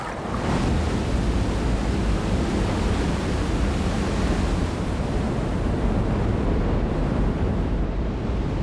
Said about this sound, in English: This is Niagara Falls, one of the wettest and wildest places on Earth. 750,000 gallons of water pour over these falls in a single second.